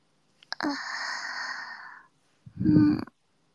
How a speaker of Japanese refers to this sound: あくびが止まらないですね。